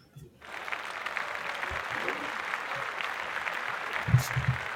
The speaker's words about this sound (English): Round of applause.